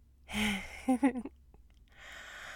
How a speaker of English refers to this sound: Well, you are all flushed and you're breathing kind of hard, so I figure that you did.